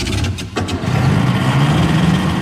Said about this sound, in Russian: Снегокат затрясся, чихнул, дернулся и, взревев, как разъяренный зверь, оторвался от земли.